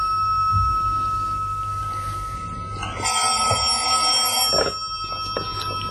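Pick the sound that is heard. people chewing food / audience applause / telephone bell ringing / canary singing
telephone bell ringing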